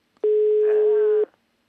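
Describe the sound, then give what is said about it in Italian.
A single loud, steady telephone ringback tone sounds for about a second, a flat electronic beep heard while a call to Senator Petrocelli is being placed for Radio 24, with faint murmuring underneath. “Stai provando il cellulare del Papa?”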